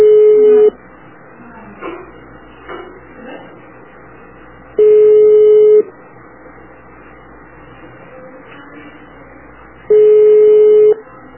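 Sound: telephone line ringing tone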